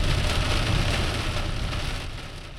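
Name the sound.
heavy rain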